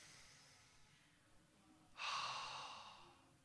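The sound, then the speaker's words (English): A long, slow deep breath is drawn in softly, then released as a louder, airy exhale, with no talking. “Or some people say you've got to be breathing properly.”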